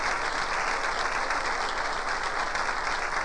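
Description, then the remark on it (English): Steady, sustained applause from a large audience for people streaming down the aisle, many hands clapping together in a dense, continuous wash of sound with no talking over it. “Give them a good hand clap.”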